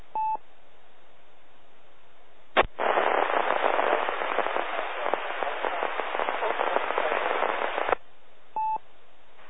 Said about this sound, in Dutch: Zwak en diep in de ruis. QRZ, het zwakke station. Graag de call een paar keer. Alleen inmelden, want het is bijna niet te nemen.